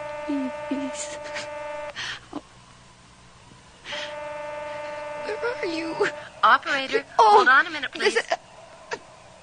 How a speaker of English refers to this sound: There's gotta be a phone. Ah! It's the phone.